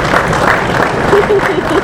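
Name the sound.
audience clapping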